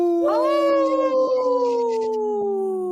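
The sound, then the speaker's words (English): A person imitates a wolf, howling the word 'no' in protest against wolf hunts in Minnesota: one long, loud howl that swoops up quickly and then slowly glides down in pitch, held steadily for nearly three seconds. “See how I said no? Yeah. In the howl?”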